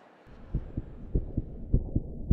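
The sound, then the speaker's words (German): A steady heartbeat, the heart's ventricle muscles contracting to push blood out into the aorta and arteries, thumps in low, muffled lub-dub pairs, roughly three beats over a couple of seconds, with a soft rumbling hum underneath and no voices. “Die Herzkammernmuskulatur zieht sich zusammen, wodurch das Blut aus der Kammer strömt.”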